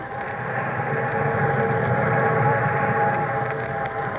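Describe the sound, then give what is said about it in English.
A steady, loud rumble of an eastbound train thundering along, with dense low-end roar and a constant mechanical drone holding evenly throughout, no voices present. “Meanwhile, the eastbound train thundered on.”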